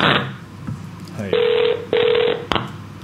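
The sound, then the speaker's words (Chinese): An incoming listener call to a radio call-in show rings twice in quick succession, each loud electronic ring lasting about half a second with a steady buzzing tone, followed by a short click. “第一次接电话”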